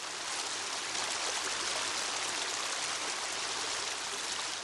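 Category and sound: nature, heavy rain falling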